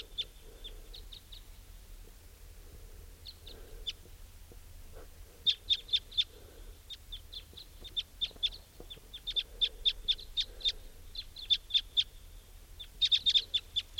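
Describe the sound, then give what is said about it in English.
Wild crossbills at a clearing give many short, sharp high-pitched chip calls in quick bursts and clusters, several birds overlapping, over a low steady background rumble with no talking. “Place is crawling with crossbills.”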